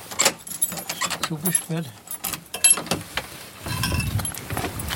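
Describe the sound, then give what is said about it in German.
Keys on a ring jangle in bright, irregular metallic clinks; among them is key number 21, the church key of the Michaeliskirche in Neustadt am Rennsteig. A voice briefly murmurs, and a low rumbling handling noise swells near the end. “So, und es ist der Schlüssel mit der Nummer 21, ist der Kirchenschlüssel.”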